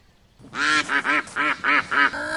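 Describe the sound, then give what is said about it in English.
A botched attempt at a rooster's cock-a-doodle-doo that comes out as a quick run of about six loud, nasal, quack-like honks, with no talking. “He can't even make the cock-a-doodle-doo sound.”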